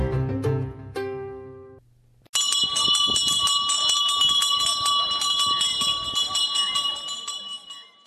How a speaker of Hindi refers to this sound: ये घंटी की आवाज और ऑक्शन करवाने वाले की आवाज, going one, going twice, sold, ये काफी लोगों ने सुना ही होगा।